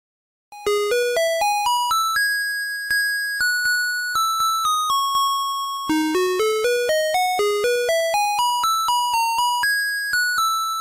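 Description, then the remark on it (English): A garbage truck's music jingle in Taiwan, signalling that the garbage truck is coming, plays a bright, electronic chime-like melody, with quick rising runs of notes settling into held tones, repeated twice at a steady loudness with no voices. “No, that's the garbage truck music in Taiwan.”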